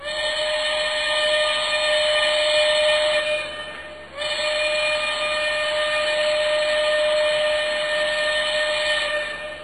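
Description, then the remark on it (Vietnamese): A steam train whistle blows loudly at a station as the train approaches, in two long, sustained blasts separated by a brief break, its shrill, multi-toned wail carrying an airy hiss of steam. “Xe lửa thổi súp lê vang rân, người ta lại càng lấn nhau hơn nữa.”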